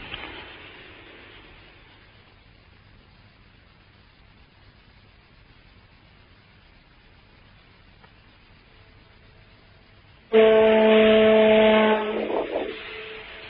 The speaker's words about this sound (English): Wow, can we just take a few seconds of this foghorn?